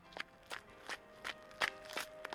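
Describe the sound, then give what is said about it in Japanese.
A steady series of about seven footsteps of a woman in a kimono approaching from behind at a fountain plaza, evenly paced and growing a little louder as they draw closer, over a faint, continuous background hum with no voices. “後ろから足音が近づいてきた。”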